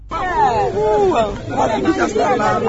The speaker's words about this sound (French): Nous sommes au quai du port de Bateau Emmanuel. Il est presque 13h locales. Ici, les passagers en provenance de Bukavu débarquent du Bateau Emmanuel 2 qui vient juste d'accoster.